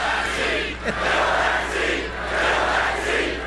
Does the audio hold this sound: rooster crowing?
no